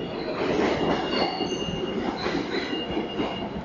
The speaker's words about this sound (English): Ride the New York City subway to 7th Avenue, the Garment District.